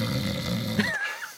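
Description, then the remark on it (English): A low, rough rumbling snore from a bear in a dark forest at night, about 5 feet away, drones for most of a second, then gives way to a thin, rising and falling whistle-like tone as the breath trails off. “And it was a bear snoring about 5 feet away from my feet.”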